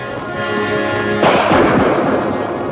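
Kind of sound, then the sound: sound effect, rifle gunshot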